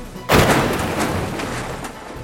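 A single loud explosion erupts suddenly after a brief quiet moment: Yun Bong-gil's water-flask bomb, thrown around 11:50 a.m. in the Hongkou attack, landing at the centre of the podium. A sharp blast spreads into a long, roaring rumble and slowly fades. No voices are heard.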